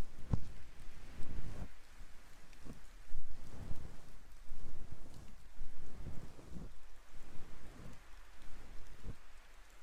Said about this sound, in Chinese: 天气预报也不怎么靠谱，所以啊，身上要是没带伞，就麻烦了。没事的，反正下雨嘛。